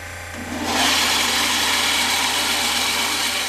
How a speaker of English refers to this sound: And here is a small bandsaw where you're cutting the pieces out. Here where you cut it.